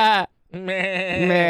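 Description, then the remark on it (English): A person mimics a goat with two loud bleats, a short one then a longer quavering one, the voice wobbling in a rapid tremolo like a real goat. “Like that sounded like a goat.”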